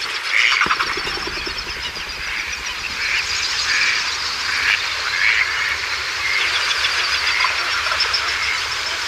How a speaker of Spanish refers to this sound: Patos y grullas al amanecer. Los patos vuelven. Los patos vienen de pasar la noche por ahí comiendo y las grullas se van. A ver. Y ahí ya se van acercando las grullas.